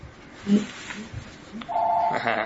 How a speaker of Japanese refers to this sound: すみません、OK、すみません。今電話かかってきた。